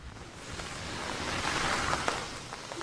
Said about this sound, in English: Rain from a powerful storm that's drenched much of the drought-stricken state for 2 days. NPR's Kirk Siegler reports the storm has provoked a few headaches, but a lot more smiles in Southern California.